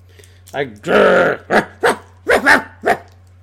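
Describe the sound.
A voice imitates a dog: one drawn-out, rough growl followed by a handful of short, sharp barks in an uneven rhythm, loud over a steady low hum.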